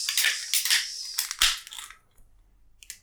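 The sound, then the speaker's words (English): A can of Bo Pils, a light, crisp pilsner beer, being cracked open: a quick run of crinkly metallic crunches ending in one sharp pop and hiss, then near quiet with a small click at the end. No one speaks. “So, are you ready to crack open?”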